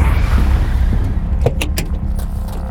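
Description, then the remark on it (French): A Ford police car's engine rumbles loudly and steadily as it pulls alongside suspects and the driver maneuvers to cut them off. Then a quick cluster of sharp clunks and clicks cuts through the noise as the car comes to a halt with screeching tires. “Le chauffeur effectue une manœuvre pour leur couper la route et immobilise son véhicule dans un crissement de pneus.”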